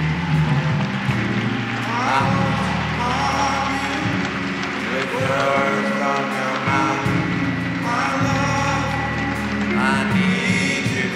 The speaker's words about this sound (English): Come on, keep your hands clapping. Encourage these brothers.